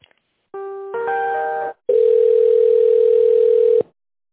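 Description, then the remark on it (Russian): A phone line switching over during a call transfer at the company Welltel, to the person who handles tenders: a brief burst of stacked electronic tones, then a steady, loud ringback tone holding for about two seconds, with no one speaking. “Так, давайте я вас сейчас переключу на человека, кто у нас тендерами занимается.”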